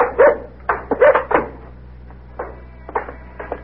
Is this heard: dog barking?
yes